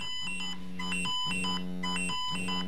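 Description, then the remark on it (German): A pager alert from the emergency dispatch centre, received at an ambulance station and signalling a new emergency, sounds a repeating electronic tone pattern: a steady buzzing drone alternating with bright, higher beeps in a cycle of about one second, loud and continuous with no voices. “Da meldet sich die Leitstelle über den Pieper.”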